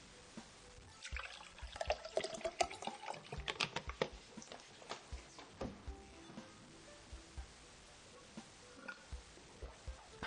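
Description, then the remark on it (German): Wine is poured into a glass, a gurgling splashy pour for a few seconds that thins into a trickle and scattered drips, with no one speaking. “Ja, heute gibt's aber nicht nur Wasser zu trinken, sondern ich habe mir heute mal einen Wein gegönnt.”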